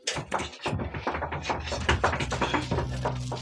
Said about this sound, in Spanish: Rumores casi imperceptibles que llegan desde la cerrada puerta interrumpen la conversación. Y luego... ¡Oh! ¡Ganzúas!